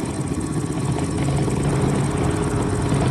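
motorcycle engine running

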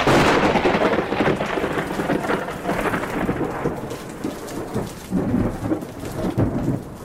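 thunder sound effect

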